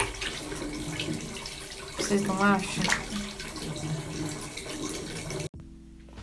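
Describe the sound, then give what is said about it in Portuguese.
Steady tap water gushes into a sink for several seconds while someone brushes their teeth in Canada, a continuous hiss under a brief spoken question, then cuts off abruptly near the end. “Estou escovando os dentes aqui.”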